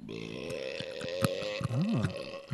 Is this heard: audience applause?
no